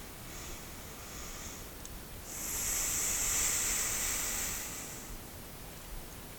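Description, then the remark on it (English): A brief soft exhale through the nose, then a longer, louder, breathy rush of air lasting a few seconds as CBG smoke is breathed out through the nose, with no talking. “I definitely recommend breathing it out your nose.”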